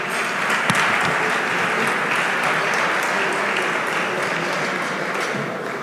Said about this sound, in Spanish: un aplauso para